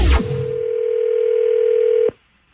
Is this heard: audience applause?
no